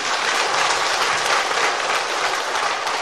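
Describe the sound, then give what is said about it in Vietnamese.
An audience at a Buddhist talk claps steadily, a dense, continuous wash of applause filling the whole moment, with no talking over it. “Cho một tràng pháo tay.”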